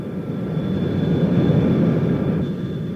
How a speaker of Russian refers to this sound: Внимание, товарищи пассажиры! Наш самолет совершает посадку в аэропорту города Ленинграда. Просьба не курить и застегнуть привязные ремни. Просьба всем оставаться на своих местах до полной остановки двигателей.